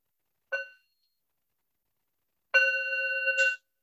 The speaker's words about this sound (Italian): E ascoltiamo un altro suono di campana.